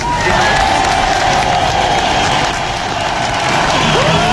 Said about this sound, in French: Je vous propose de vous applaudir.